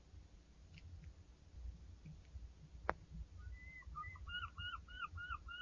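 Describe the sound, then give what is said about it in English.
A bird calls by the sea in a quick run of repeated, even chirps over a steady low rumble of wind or surf outdoors; a single sharp click sounds just before the calls begin. “More birds this year.”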